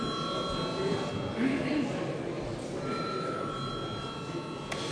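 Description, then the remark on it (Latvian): A steady electric bell tone rings continuously for several seconds, high and sustained, over a low murmur of many people talking, rung to call members to registration at a sitting of the Latvian Saeima (parliament). “Un tagad lūdzu zvanu reģistrācijai.”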